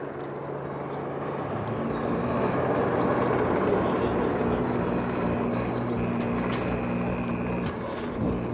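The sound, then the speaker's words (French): A helicopter drones steadily overhead during a large demonstration at Narita, surveilling the movements of protesters opposing the airport; its broad engine and rotor roar fills the scene at a constant loud level, with a low humming tone running underneath throughout. “Donc, on a l'hélicoptère qui nous survole et qui surveille tous les allées et venues des opposants à l'aéroport.”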